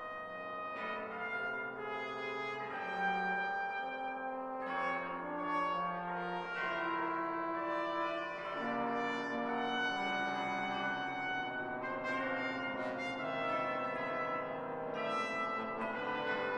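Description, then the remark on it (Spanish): A dense instrumental piece by Charles Ives, headed 'Steeples' (Campanarios), plays steadily at a moderate level throughout with no voices. Ringing, bell-like tones are layered over sustained harmonies. “Cuando Charles Ives esbozó la pieza que escuchamos de fondo, escribió en su cabecera, Campanarios, un nuevo sacristán, el teléfono de los Smith.”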